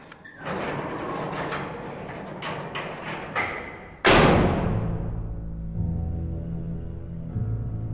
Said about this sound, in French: Attention, la porte se ferme.